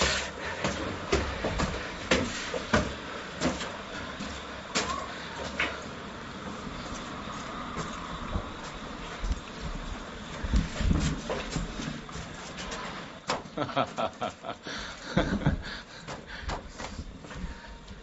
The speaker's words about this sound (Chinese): 就这个敲门这个声音特别熟，就经常有人到这儿来就敲这个门，我都不知道里面什么样。